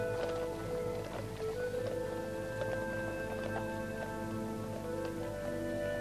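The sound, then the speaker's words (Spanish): Horses' hooves clop in a steady, uneven stream as an army of riders passes through a city, the hoofbeats moderately loud over a sustained tonal background like music. “Varias mujeres bajan la mirada al paso de los jinetes.”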